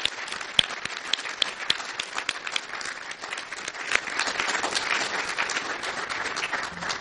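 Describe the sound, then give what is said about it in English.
A sustained round of applause from many hands recognizing the accomplishments and careers of Dr. Fraser and Dr. Macklem, a dense, steady crackle of overlapping claps with a few sharper individual claps standing out, holding at an even level throughout. “Please join me in a special round of applause to recognize their accomplishments and their unparalleled careers.”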